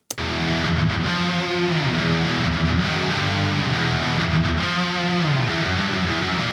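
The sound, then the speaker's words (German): A thick wall of six layered, distorted electric guitars plays together in a mix, all routed to a shared reverb. The sound is loud and continuous, with no talking. “Und jetzt laufen alle sechs Gitarren quasi auf unseren Kreuzhall.”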